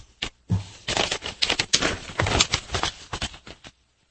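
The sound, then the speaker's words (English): Crisp rustling and crinkling of newspaper pages being handled and pushed aside as someone moves other sections out of the way to read, a busy run of papery swishes and crackles lasting a few seconds with no voices. “Get this other pieces out of my way for the moment. Just so I can read it better.”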